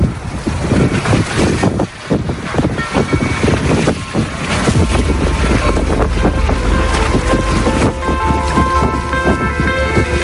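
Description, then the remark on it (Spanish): Loud, continuous ocean waves churn and splash while strong wind buffets the microphone, with no voices, on the Monday swim of swimmer David Meca from Alcatraz prison to San Francisco Bay, a 7.9-kilometre crossing. “Escuchando las olas y el viento que han acompañado este lunes al nadador David Meca en su última hazaña, escapar de nuevo de la cárcel de Alcatraz y llegar a la bahía de San Francisco, completando un total de 7,9 kilómetros”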